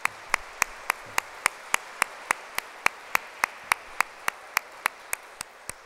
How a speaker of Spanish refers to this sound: Quiero darle las gracias por todo lo que han hecho. Y quiero darle un fuerte aplauso a Cristo por ellos, por su ministerio que ellos hacen.